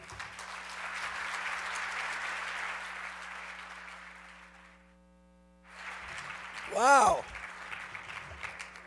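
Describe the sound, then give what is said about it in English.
A crowd claps steadily for about five seconds, pauses briefly, then bursts into applause again while a single voice exclaims over the clapping, applauding a spoken-word performance of a book. “I think we gotta add a little applause there”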